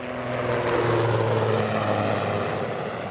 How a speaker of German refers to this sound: Auf dem Militärflughafen Bayern. Ein Helikopter, ein Super Puma, führt Kunststücke vor. Senkrecht steigt er in den Himmel, steht still und schnellt plötzlich in die Tiefe. Es sieht aus, als würde er gleich abstürzen.